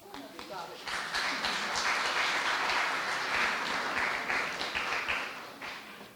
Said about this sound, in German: Vielen Dank, den Applaus muss ich mir erstmal verdienen.